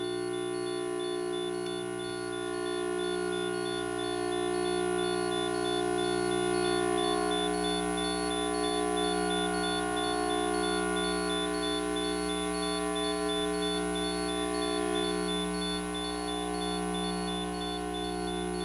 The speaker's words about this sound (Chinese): 像是一些昆虫的鸣唱，伴随着电流的隐隐低鸣声。别害怕，你的电话和无线网络所发出的都比这个还要强烈而复杂。